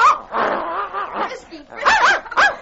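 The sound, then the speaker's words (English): A small leashed puppy barks and yips excitedly as it leaps at and attacks a blanket flapping in the wind on a sled, a run of quick, high, whiny bursts with short pauses, ending in two sharper yaps. “The corner of a blanket on the sled flapped in the wind, and suddenly the pup leaped toward it, pulling the leash from his young master's hand and attacking the blanket with vigor.”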